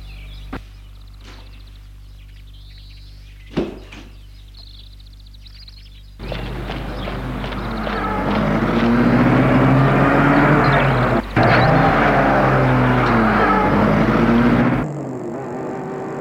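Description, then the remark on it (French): A couple of sharp clicks and thuds as a man gets into a car and shuts the door, then the engine abruptly roars to life and runs loud and steady for several seconds before cutting away. “Il entre dans la voiture.”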